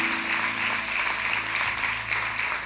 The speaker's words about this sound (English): Let's give Sarah another big hand clap.